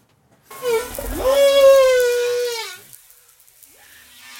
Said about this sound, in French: Alors, baleine à bosse qui est enregistré avec nos collègues de Setamada, qui est une association exceptionnelle dans l'océan Indien, qui travaille d'ailleurs avec Abyss, qui est à La Réunion